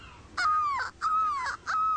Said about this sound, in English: Look, Daddy, the birds are following us. Those are seagulls.